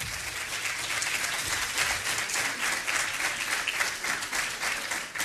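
Steady, dense audience applause as a coach is introduced, many hands clapping together at a constant loud level for several seconds, sounding full without any clear voices.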